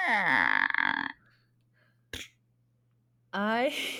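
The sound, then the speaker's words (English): A voice mimics a creaking door, acting out the door in a story: a strained, croaky groan of about a second, a short sharp click after a pause, then another rising, creaky vocal squeal. “That was the door.”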